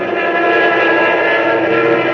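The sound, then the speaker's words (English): A loud, steady drone of a fighter aircraft's propeller engine roars continuously and unbroken, with a buzzing harmonic whine and no voices, as RAF fighter planes rise over Malta to meet enemy bombers. “heading for their planes to rise over Malta to meet the superior numbers of the enemy and their bombers”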